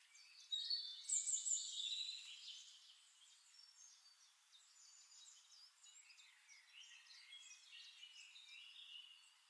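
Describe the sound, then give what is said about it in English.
Faint, distant birdsong with overlapping high chirps and tweets, slightly louder at first, then a soft continuous chorus of calls without any voices. “Birds singing in the distance, the breeze rustling the grass.”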